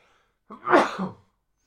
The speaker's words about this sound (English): So, I'm going to sneeze. Usually, I sneeze later in the... Here we go.